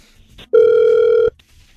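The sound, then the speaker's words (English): A single ring of an outgoing phone call placed by the Hot 96.9 radio station: a loud, steady electronic ringback tone lasting under a second, heard on its own with quiet line noise before and after. “So hang on the phone and we shall give him a call for you next.”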